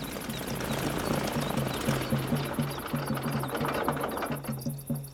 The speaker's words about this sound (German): Ah, jetzt landet das Flugzeug.